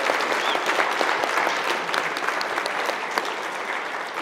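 An audience at an Evangelization Australia conference applauds two priests steadily for several seconds, a dense wash of many hands clapping with scattered sharper claps poking through, holding a fairly even loudness throughout.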